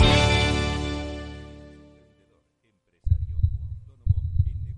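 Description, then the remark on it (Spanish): A resonant tone fades into silence, then deep, muffled heartbeat thumps arrive, two loud, booming beats about a second apart. “Escucha el latido de los mercados en Capital Radio.”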